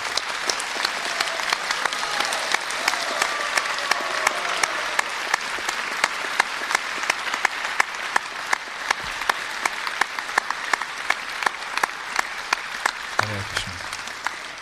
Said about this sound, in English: So let's give Sadacharya all the devotees one big round of applause for their wonderful performance once again.